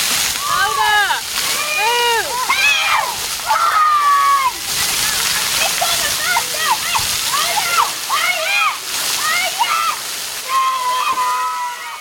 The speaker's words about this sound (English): a giant blue bucket that fills with water and then releases it every 10 minutes. Yeah, the bottom of it sort of just opens out. So then it's going to almost like a little waterfall. Yeah. Every child knows exactly what's coming and when.